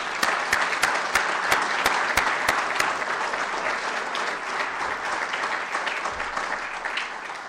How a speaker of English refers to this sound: And please join me in one last round of applause for them, please.